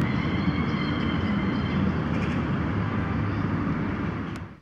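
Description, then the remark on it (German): Cars rush past on a nearby highway, blending into a steady, loud roar of traffic with deep rumble and airy hiss, holding constant before tapering off at the very end. No one speaks. “Nur die Autos der nahen Schnellstraße sausen unbeeindruckt vorüber.”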